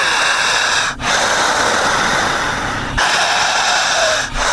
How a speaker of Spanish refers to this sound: Y al ir orando, siga respirando. Esta respiración es sagrada. Es milenaria. Se llama respiración sincrónica, pranayámica, holística. Una respiración sagrada o de fuego.